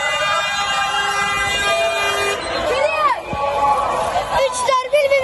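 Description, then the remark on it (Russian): A long, steady car horn blares for a couple of seconds, then gives way to a noisy street celebration of Erdoğan's election victory in Turkey, with cars stopping traffic: shouting, cheering and singing voices with more horns and whistles sounding amid the din. “На улицах начали праздновать победу. Машины останавливали движение, люди зажигали фаеры, пели песни.”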